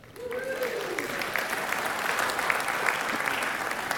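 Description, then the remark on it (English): A crowd breaks into steady, sustained applause for the speaker's wife after mention of their 18th wedding anniversary, with scattered cheers and whoops rising above the dense clapping, holding at a fairly loud, even level throughout. “I hope that you are cheering for her because she has lived with me for the last 18 years.”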